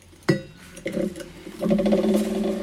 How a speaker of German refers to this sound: Jetzt habe ich mir auch so viel eingeschenkt. Aber ich finde, ich schenke immer tendenziell ein bisschen mehr ein, weil ich finde, wenn man mehr im Glas hat, dann kommen die Aromen auch besser, ja, kann man auch zur besser, Geltung, besser schnuppern